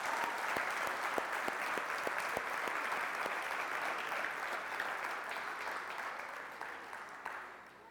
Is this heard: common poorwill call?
no